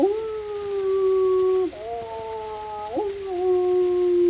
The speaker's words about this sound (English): The animals began to howl.